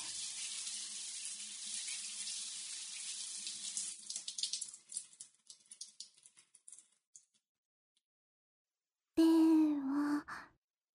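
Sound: shower spraying water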